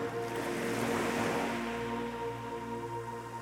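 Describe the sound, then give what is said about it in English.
A steady wash of ocean surf rolls onto the shore, swelling slightly before easing back, with a soft sustained tonal hum beneath. No one speaks. “And notice the waves as they bring in gifts of restoration and renewal.”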